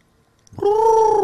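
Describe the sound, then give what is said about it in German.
After a short silence, a voice imitates a tawny owl's call with one loud, sustained, steady hoot that holds its pitch to the end. “dieses typische Käuzchengeräusch”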